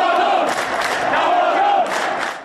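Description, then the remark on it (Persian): A large crowd of Esteghlal football fans in Tehran shouts together in unison, a loud, dense roar of many voices with rising chant-like swells that holds steady before easing off at the end. “در تهران طرفداران تیم استقلال یک صدا فریاد زدند.”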